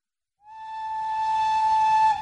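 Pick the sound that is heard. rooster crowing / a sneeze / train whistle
train whistle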